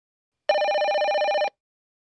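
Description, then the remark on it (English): A telephone rings once in a single steady burst lasting about a second, its bright warbling bell tone clear, with silence before and after. “The phone conversation will begin now.”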